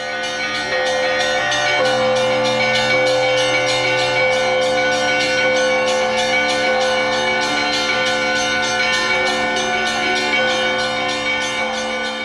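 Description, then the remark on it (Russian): Church bells ring continuously in a dense, layered peal opening a bell-ringing festival, with steady rhythmic strikes over sustained low tones, loud throughout with no voices. “И я сегодня первым звоном открывал фестиваль колокольного звона.”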